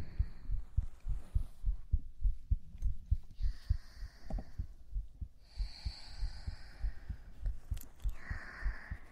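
A muffled heartbeat thumps in a quick, steady rhythm throughout, heard while being held in an embrace, with an older sister's soft airy breathing drifting in and out above it.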